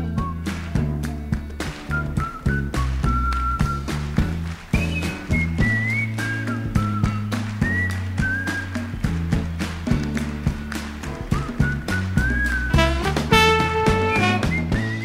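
A blues recording plays, with a clear whistled melody gliding over steady, rhythmic guitar picking and a driving bass line; no singing, and the music stays loud and continuous throughout.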